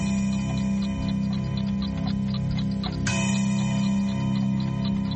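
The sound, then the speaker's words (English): A handmade clock chimes with sustained, ringing bell tones layered over a steady mechanical ticking, with a fresh strike partway through that brightens the resonance; no one speaks. “Listen to it chime.”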